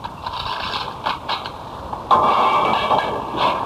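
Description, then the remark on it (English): A guard opens the heavy metal door of cell 101 in the Arizona State Prison, with grinding, rattling mechanical clicks, then a louder sustained scraping slide. No voices are heard. “I'd like you to meet the gentleman who just opened my cell door.”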